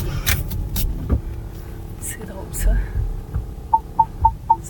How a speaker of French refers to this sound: Fait que bienvenue à Montréal où il faut que tu déplaces juste un petit peu ton auto pour pas avoir une contravention.